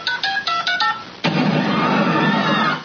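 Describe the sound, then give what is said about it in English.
A rapid string of about five crisp telephone keypad tones, from a doctored clip of The Family Guy, then abruptly replaced by a loud, steady wash of hissing noise until the end. “Damn phone's busted. Maybe I dialed wrong.”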